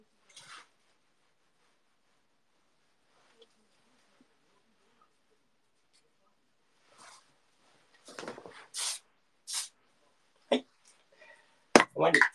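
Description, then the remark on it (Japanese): Short bursts of hairspray hiss as it is sprayed on hair while shaping it, one early and then a quick cluster of sprays near the end, separated by quiet pauses and faint handling noises. “当てながら、スプレー当てながら形を整えていきます。”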